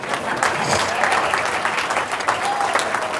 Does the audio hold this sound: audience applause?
yes